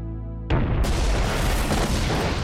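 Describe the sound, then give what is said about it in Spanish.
A low steady hum cuts off as a sudden, massive explosion erupts: explosives placed in the cargo compartment of a hijacked airliner in Malta by Egyptian forces blow up, destroying the rear of the plane. A loud, sustained roaring rumble follows, with crackling debris that doesn't let up. “La explosión destruye la parte trasera del avión.”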